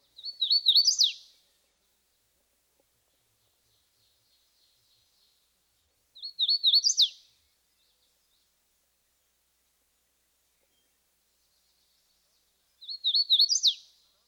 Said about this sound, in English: Listen especially for the emphasis and jump in pitch, which comes in the third phrase, tweetio. Here's the hooded warbler one more time.